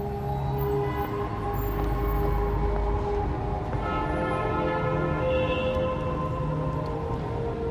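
Dense Manhattan street traffic roars steadily throughout, a thick low rumble layered with sustained tonal whines and horn-like notes, continuous with no voices.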